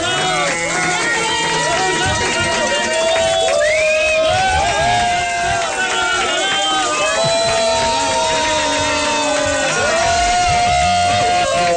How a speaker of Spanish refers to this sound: Muchas gracias. Y yo quiero, yo sumo mi aplauso al aplauso de ustedes para Tania Gaviota